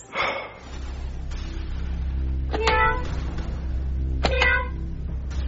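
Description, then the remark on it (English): A person imitates a cat, letting out a few short, clear meows spaced a couple of seconds apart over a steady low background hum. “Meow. Stop it. Meow. Knock it off!”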